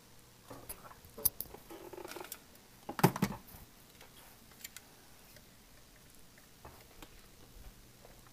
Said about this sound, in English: Yep, the surround sound's definitely detecting the rain.